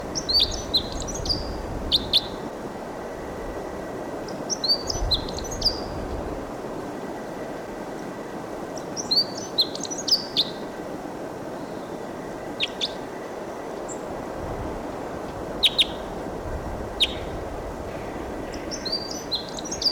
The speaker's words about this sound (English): It's a wild bird song.